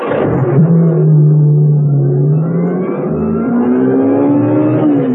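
A sports car engine revs up loudly, then pulls away, its pitch climbing steadily as it accelerates with no voices over it.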